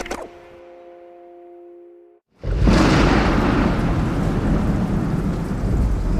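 A fading sustained tone gives way to a sudden loud burst of a storm at sea aboard a sailing ship: icy heavy rain lashing the deck and howling wind roar steadily, with deep rumbling underneath. No one speaks.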